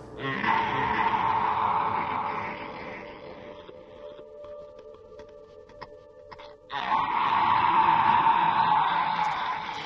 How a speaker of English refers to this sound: An inhuman animal wail tears from my throat. Beyond my control, I watch and listen as it happens. The suffering in that sound, the wounded agony, sings of both complicated birth and violent death.